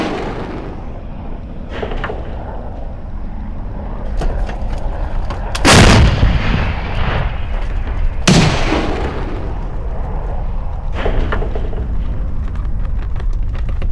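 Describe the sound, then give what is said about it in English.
Heavy explosions boom over a constant low rumble, with two loud blasts standing out among several fainter thuds, like artillery fire, around a village next to Kyiv that is near a military base. “And we heard the explosions, we saw the furniture jumping in our house, we saw the glasses trembling, we saw and heard these military jets.”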